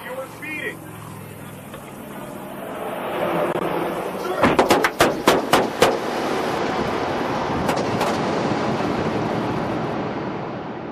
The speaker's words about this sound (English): The driver jumps out of the car and opens fire on the officer.